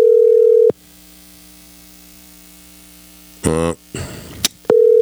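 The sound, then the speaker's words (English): An unanswered phone call's ringback tone: a steady electronic ring sounds briefly, followed by a long silence, a short burst of noisy clatter, then the ring starting again. “keep him on the phone for a few minutes if he answers the phone”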